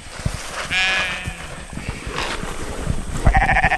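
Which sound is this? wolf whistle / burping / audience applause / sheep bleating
sheep bleating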